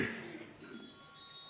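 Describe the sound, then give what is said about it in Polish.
A mobile phone rings during a seminar talk with a thin, melodic electronic jingle of sustained high tones. It plays faintly and continuously over a soft background hum. “A proszę wyłączyć ten telefon.”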